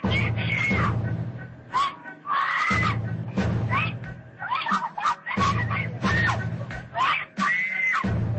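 A woman screams and cries out loudly and repeatedly while police officers carry her to their car and she kicks and struggles, in strained, wavering bursts separated by brief gasping pauses, with scuffling noise underneath.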